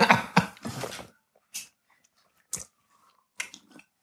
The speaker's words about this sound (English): I poured some of y'all the Queen's Water. Y'all yes, can take a sip, see how it's hitting.